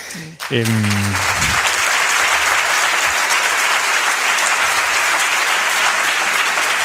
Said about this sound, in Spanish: Nos estamos empezando a poner un poquito celosos los demás. Digo, pues si queréis repartir los aplausos, estamos nosotros aquí.